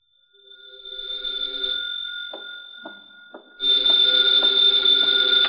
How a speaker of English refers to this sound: Then there was the phone. There was no mistake about that. That began late this afternoon.